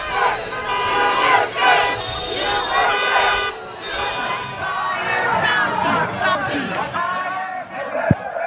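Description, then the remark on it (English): Demonstrators opposing the lockdown in Lansing, Michigan, holding Trump banners and signs, shout and yell continuously over a steady blare of honking horns from their traffic-jam protest, the voices rising and falling in loud overlapping bursts for the whole stretch. “Demonstrators who opposed the lockdown with a traffic jam in Lansing, Michigan, holding Trump banners and signs calling to make Michigan great again.”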